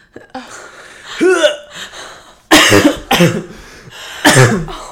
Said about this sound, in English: Well, I thought I was going to cough, but I didn't end up coughing. Was that on purpose? Yeah. I thought a cough was coming, but then I just, like, almost dry heaved.